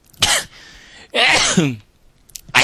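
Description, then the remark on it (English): A loud human sneeze: a sharp breathy burst and a hissing pause, then a forceful voiced explosion, with the start of another burst at the very end. “I'm going to have to sneeze, so I should warn you.”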